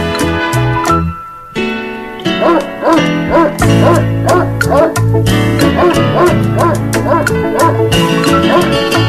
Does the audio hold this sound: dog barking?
yes